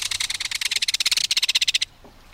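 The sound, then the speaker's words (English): A belted kingfisher's loud, dry rattling call: a rapid string of about twenty harsh, high clicking notes that runs for nearly two seconds, then breaks off, with one brief note at the end. “There's no other sound along a stream or waterway quite like the reverberating metallic call of a belted kingfisher.”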